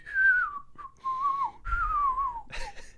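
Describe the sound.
Someone whistles a juggling circus clown tune, a clear melody of sliding, downward-gliding phrases with short breaks between them and no talking.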